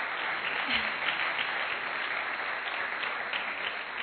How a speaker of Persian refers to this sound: یه تشویق جانانه میخواییم.